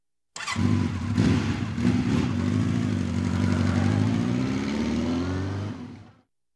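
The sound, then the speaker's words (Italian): A motorcycle engine idles and revs steadily for about six seconds, a throaty low rumble with slight pitch rises, then cuts off abruptly. No one speaks. “È una moto.”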